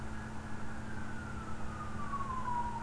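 A fire engine siren wails steadily over a low rumble of traffic, its pitch sliding slowly downward as it passes.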